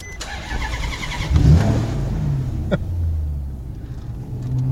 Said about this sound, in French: C'est quoi comme voiture? C'est une Maserati, Gran Turismo. C'est un moteur Ferrari.